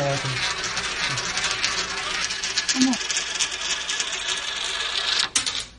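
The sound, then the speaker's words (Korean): A coin rolls around a gravity well funnel, a science demonstration device explaining gravity, with a steady metallic whirring rattle, ending in a few sharp clinks as it drops through. Faint voices murmur in the background. “자, 동전을 얻겠습니다. 중력 우물에 대해서 이렇게 설명하는 거죠.”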